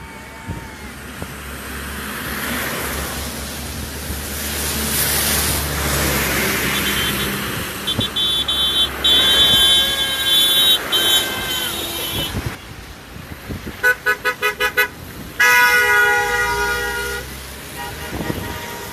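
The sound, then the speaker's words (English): A car in Boris Johnson's official entourage rushes past amid roadway noise at Finstown, Orkney, then loud horn honks ring out in several bursts, a long blare followed by a quick run of short, rhythmic toots. “That was a car with Boris as a twat coming along there as well in the official tourage.”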